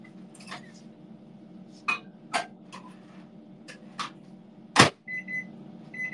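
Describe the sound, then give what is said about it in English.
A microwave oven hums steadily while several sharp clicks and clatters sound, followed by a short electronic beep near the end. “Got the microwave ready.”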